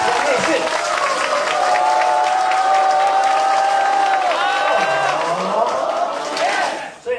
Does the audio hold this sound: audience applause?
yes